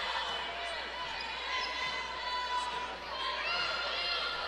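A basketball being dribbled near the half-court stripe during a Searcy Lady Lions women's game, its bounces mixed into a steady wash of crowd noise and chatter filling the gym throughout.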